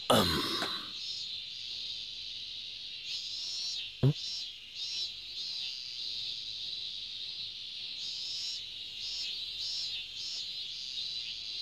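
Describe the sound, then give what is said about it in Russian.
A steady, shrill buzzing chorus of cicadas fills the scene, pulsing in waves over a quiet background, with a brief low thump around the middle. “Красиво цикады стрекочут.”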